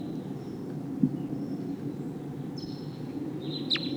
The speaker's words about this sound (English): There's a wild bird here. Sounds like a V-shaped flight call.